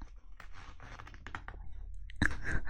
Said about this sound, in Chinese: 帮我把后面的拉链拉一下，快！